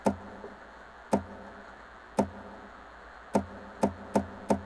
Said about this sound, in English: A knock of the guitar.